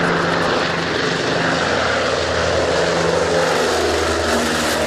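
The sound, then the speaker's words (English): A large propeller water bomber, called the largest bucket of water in the world and based on Sprout Lake, drones steadily and loudly, its engines giving a low, constant roar with humming tonal bands and a broad rushing wash on top. No voices are heard. “Nope, we don't need the largest bucket of water in the world.”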